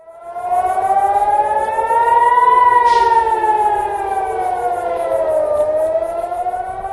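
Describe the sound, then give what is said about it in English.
A loud air raid siren in Israel, blaring across Haifa and Beersheba, wails continuously, its tone slowly rising and falling in long sweeping arcs, filling the whole stretch with a steady blaring drone and no voices. “Explosions were heard in northern Israel early Tuesday, and air raid sirens blared across Haifa and Beersheba.”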